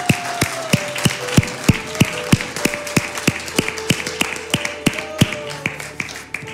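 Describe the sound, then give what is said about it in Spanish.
A crowd claps together in a steady, even rhythm, applauding for the Lord, sharp hand claps landing roughly three times a second, with soft sustained musical tones humming underneath and no one talking. “Aleluya, den un aplauso al Señor. Denle un aplauso al Señor.”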